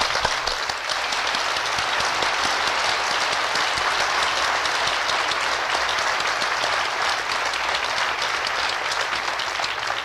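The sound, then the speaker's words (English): Sustained, dense applause from a large crowd at a graduation ceremony, many hands clapping steadily for Bachelor of Science graduates in Natural Resources Management at an even loudness throughout with no break and no voices. “Please applaud our fine graduates.”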